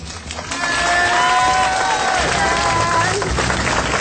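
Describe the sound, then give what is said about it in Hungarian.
A large crowd of people from Baja bursts into loud, sustained applause as a farewell, with dense clapping mixed with cheers and whoops that carry on steadily for several seconds. “És akkor most az a kérésem, hogy búcsúzolul a bajaiak, búcsúzzanak el a mi rádió hallgatóinktól egy nagy tapsal.”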